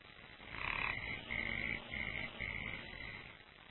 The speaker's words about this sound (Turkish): Gelenler önce kurbağa sesinden başka bir şey duymadılar.